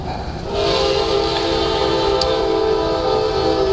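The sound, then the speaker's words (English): A train horn blares loud in one long, steady blast over the rumble of a passing train. It starts abruptly and holds for about three seconds. “Trains get blessed when you say Silvanus.”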